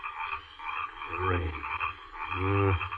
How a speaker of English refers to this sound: These eternal frogs will drive me mad. It's the rain that brings them up. The rain.